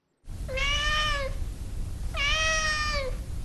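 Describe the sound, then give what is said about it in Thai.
A cat named Nala meows twice, each call lasting about a second with a bright, steady pitch that dips at the end, over a constant low rumble of background noise. “ผู้ที่ต้องการเข้าไปชมความน่ารักของนาราสามารถติดตามเธอได้ค่ะผ่านทาง Instagram และ Facebook นาลา underscore cat”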